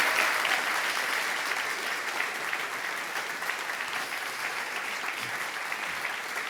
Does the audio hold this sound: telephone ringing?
no